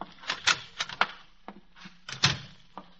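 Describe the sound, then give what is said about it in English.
Sharp mechanical typewriter keystrokes strike in quick irregular bursts, moderately loud, with short pauses between clusters of clacks and no one speaking, as reports are typed. “Now, just type these reports, William.”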